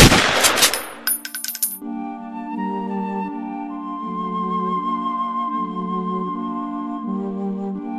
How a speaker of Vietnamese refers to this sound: Bà nhấc súng, chỉ một cách thôi, đặt nòng súng lên thái dương và siết cò.